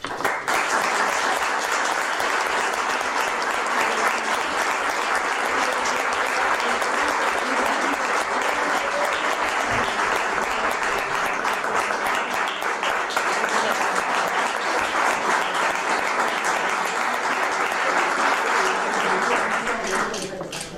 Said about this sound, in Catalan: Us demano un aplaudiment a ell. D'aquesta manera, aplaudim a tots aquells que van protagonitzar aquella jornada.